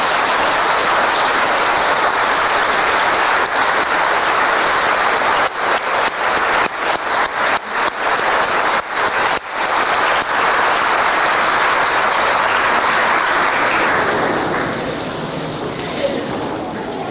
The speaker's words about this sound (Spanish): Es porque hoy es el día de las madres. Las mamás que están presentes aquí, ¿podrían ponerse de pie, las mamás? Muy bien, vamos a darles un gran aplauso, ¿eh?